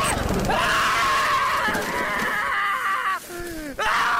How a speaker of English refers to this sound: Yeah, let's go back to the initial scream.